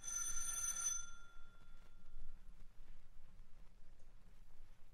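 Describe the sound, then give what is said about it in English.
A bright, metallic doorbell rings once for about a second with a ringing tone that fades, leaving a steady low rumble of background noise. “Ring the bell,”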